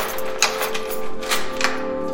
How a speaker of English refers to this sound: A cell door is locked.